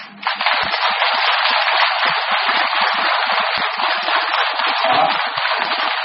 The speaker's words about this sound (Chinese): 再鼓掌，我也不跟你们讲了，没办法，因为时间不早，我只要留点时间给你们多念念经。